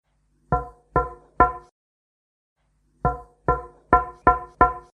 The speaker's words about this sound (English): Can you hear a knocking? No.